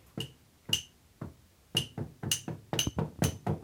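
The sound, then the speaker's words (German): Sharp knocks on an object strike at an even, moderate quarter-note beat, about two per second, several carrying a brief ringing ping, with softer extra taps slipping in between the main hits. “Irgendeiner klopft dann irgendwie so im Vierteltakt irgendwo drauf, das klingt auch gut.”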